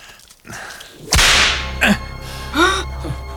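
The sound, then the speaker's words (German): A single sharp whip crack snaps loudly, followed by a ringing tail and a couple of fainter swishes or metallic echoes, with no one speaking. “Eine Peitsche?”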